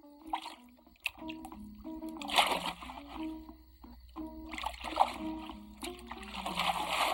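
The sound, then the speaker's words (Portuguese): Water splashes in a few uneven bursts, moderately loud, as a child washes, over a soft melodic background of music; no one speaks. “Não gaste muita água.”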